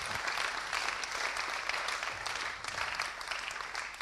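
Steady applause from an audience, a dense crackle of many hands clapping that holds at an even, fairly loud level for several seconds without pause.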